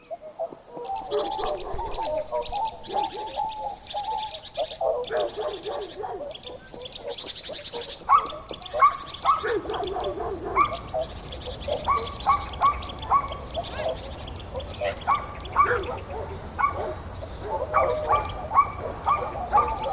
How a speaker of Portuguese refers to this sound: Eu mal abro o portão e os cachorros já latem doidos para traçar o caminho. Como se eles soubessem para onde estão indo, né?